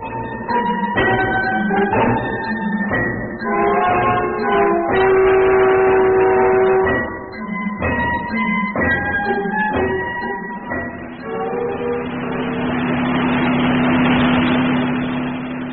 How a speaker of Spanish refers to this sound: Calimán conducía el auto a prudente velocidad. Se internaba por las tortuosas callejuelas del lado oeste de la ciudad.